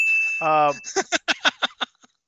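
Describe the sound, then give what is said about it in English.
A wrestling ring bell rings with a sustained metallic tone, then is struck in a quick run of about seven clanging dings that fade out, with a brief voice near the start. “Ring the bell for yourself.”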